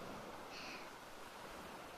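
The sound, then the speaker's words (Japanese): Ocean waves wash onto the shore as a soft, steady hiss of surf with no distinct crashes and no voices. “波の音を聞きながら、こうしてご主人にギューってくっついてるだけで幸せです。”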